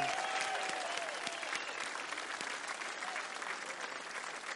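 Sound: audience applause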